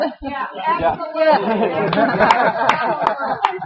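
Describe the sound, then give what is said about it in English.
A crowd murmurs and chatters, and partway through a few sharp, scattered claps ring out at a steady pace over the voices, like applause just starting up. “Let's give you a round of applause because we're coming to the end.”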